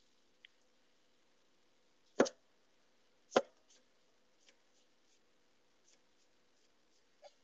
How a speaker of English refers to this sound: Okay. Can you hear the chopping sounds?